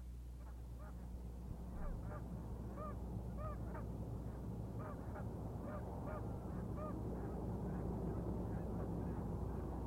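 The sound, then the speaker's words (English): A flock of about 30 Canada geese on a pond in Fairbanks honks repeatedly in scattered overlapping calls over a steady low rumble of heavy noontime traffic on a busy four-lane street about 75 yards away, the traffic noise constant throughout. “Heavy noontime traffic passes by as about 30 geese enjoy pond waters located only about 75 yards from the busy four-lane street.”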